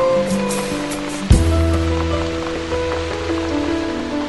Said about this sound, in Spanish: ¡Qué tranquila se está en casa! ¿Verdad que sí, Dina? Y sobre todo ahora, que está lloviendo.